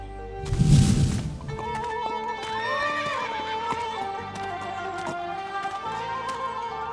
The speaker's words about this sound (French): Ces chevaux attachés ne sont pas en mesure de boire tout seuls.